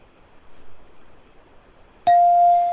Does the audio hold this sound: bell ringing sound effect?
yes